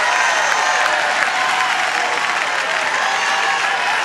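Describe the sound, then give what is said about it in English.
An audience claps loudly and continuously, dense applause with a steady, unbroken roar of many hands and faint crowd noise underneath. “Clap, clap, clap, holler, scream, do something.”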